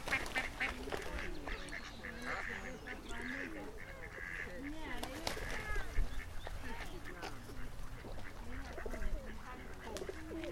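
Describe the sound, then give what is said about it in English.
A busy flock of birds, likely ducks, calls constantly as a boy runs among them, with overlapping quacks and honks forming a dense, steady chorus with no pauses, while indistinct voices murmur underneath. “He is a boy's running, of course, amongst the birds.”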